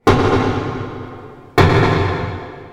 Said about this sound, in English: Here's what pile driving sounds like when you record it that way. Water muffles the sound, so as a human listening to this, it probably doesn't sound so bad, right? But to a fish, it's like the sound of firing a gun next to your head.